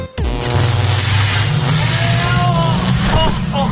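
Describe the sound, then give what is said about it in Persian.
A loud time machine sound effect powers up, a steady engine-like rumble and whir that holds strong throughout, with brief rising tones near the end and no talking. “که ماشین زمانشو امروز روشن کرده کجا رفته”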